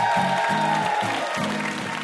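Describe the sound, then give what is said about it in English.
Steady, dense audience applause at the close of NPR's Ask Me Another, a last round for VIP guest Meg Wolitzer, with even claps throughout and a low, rhythmic musical pulse underneath. “One last round of applause for our VIP, Meg Wolitzer.”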